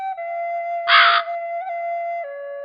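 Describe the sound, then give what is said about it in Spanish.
A single harsh crow caw, loud and close, lasting under half a second, rising over a steady, sustained droning tone that hums throughout. “Abre tu mente para recibir las enseñanzas del cuervo.”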